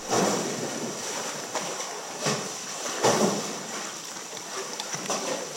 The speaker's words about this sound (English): Close your eyes and come inside with me and listen to the music of the sea caves.